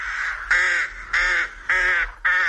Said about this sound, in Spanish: Y las grajas grajean, como parecía previsible.